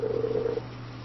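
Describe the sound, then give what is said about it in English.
A steady telephone ring tone sounds once for about half a second over a low electrical hum as a phone call is placed, then cuts off, leaving only the faint hum behind. “Yeah, I'm going to call them.”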